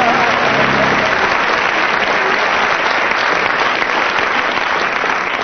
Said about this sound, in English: And from the audience's applause, you win that round